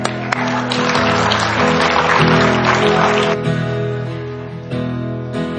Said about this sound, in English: You can applaud. That's exciting.